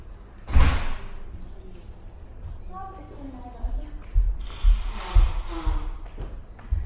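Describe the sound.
A door is being closed: it swings shut with a sharp slam near the start, followed by a few softer thuds and indistinct voice-like sounds.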